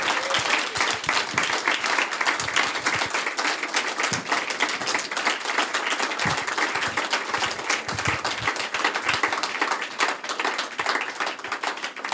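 Sustained applause from an audience, a dense wash of many hands clapping at once, steady and fairly loud for about twelve seconds with no voices standing out.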